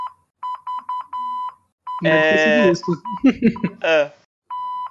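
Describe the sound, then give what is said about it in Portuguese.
Morse code beeps: a run of short and long steady, high-pitched tones in an uneven pattern, then a voice speaks briefly before one more long beep sounds. “Como que é o arroba em código Morse?”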